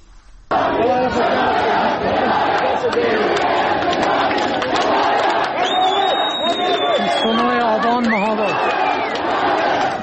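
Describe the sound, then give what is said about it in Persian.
A large crowd gathered around a police station in Mahabad shouts continuously and loudly, a dense roar of many overlapping voices with occasional higher-pitched cries rising above it, sustained for the whole clip after a brief quiet start. “در اطراف کلانتری، یکی از کلانتری‌های مهاباد که در ویدیو منتشر شده تعداد زیادی از جمعیت دیده میشن که فریاد حمایت از جانب نیرو انتظامی میخوان.”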